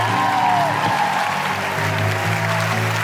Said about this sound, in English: Thank you so much. And please get behind these guys, these women, their websites, all of that stuff. A big round of applause to Sindhu V. Layla Hussein and Laura Bates.